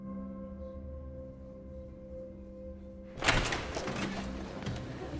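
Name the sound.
door opening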